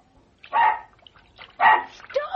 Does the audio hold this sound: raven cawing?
no